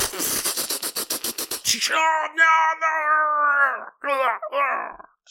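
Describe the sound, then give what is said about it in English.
A rapid burst of sharp, evenly spaced gunshot pops as men open fire gives way to loud, warbling, inhuman screams and wails of aliens that rise and break off, intense, with no talking. “The aliens are all screaming and stuff.”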